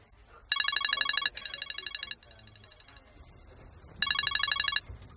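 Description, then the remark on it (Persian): A telephone rings with a bright, rapidly trilling tone: a loud burst, a softer follow-up burst, a faint echo of it, a short pause, then another loud burst. No one speaks. “سلام، یه ساعت دارم زنگ میزنم، یا در دسترس نیستی یا بوق اشغال میخوره.”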